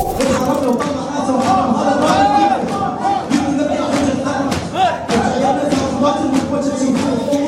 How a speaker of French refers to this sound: Alors voilà, cette foule d'hommes scande en rythme des latmiyat, des vers chantés retraçant l'épopée et le martyre des imams ou d'autres figures de l'islam chiite. Ça, c'est très traditionnel.